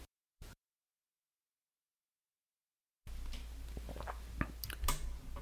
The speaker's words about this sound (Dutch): Oké. Even een slokje nemen hoor.